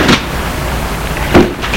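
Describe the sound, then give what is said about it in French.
A man gets into his car after leaving a train station: a car door opens and then shuts about a second later, two solid clunks over a low, steady background hum, with no one speaking. “Il va rentrer dans sa voiture”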